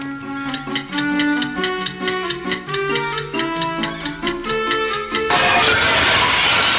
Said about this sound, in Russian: Я уронил стекло.